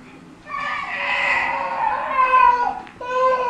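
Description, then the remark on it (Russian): A baby cries in a long, wavering wail, fairly loud, breaking off briefly near the end before a second cry starts up. “Ребенок улыбается. Или плачет.”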